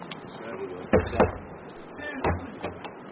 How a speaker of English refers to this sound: Would you care to knock?